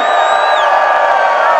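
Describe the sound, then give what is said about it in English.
A large crowd screams together on a count of three in one sustained, loud burst of high-pitched shouting and cheering, dense and continuous for a second or two. “So raise your hands and on the count of three, scream.”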